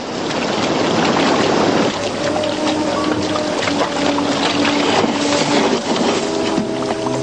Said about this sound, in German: rudern sie behutsam zu der Insel und ziehen das Boot an Land.